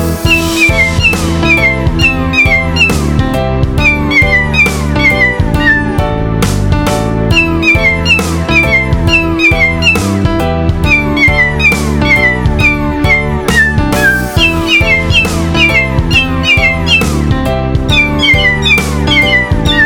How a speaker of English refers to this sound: Now it's time for the cats to sing too.